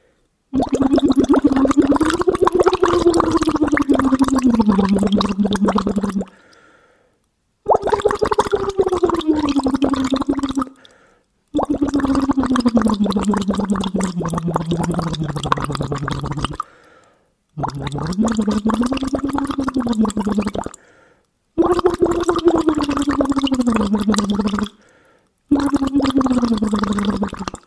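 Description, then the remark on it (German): Bubbling gurgle of air blown through a hose into water, in six sustained bursts of several seconds each separated by short pauses, fairly loud, with a humming, voiced tone wavering underneath. “Und je weiter ich den Schlauch ins Wasser halte, umso schwieriger wird es, also umso höher ist der Widerstand.”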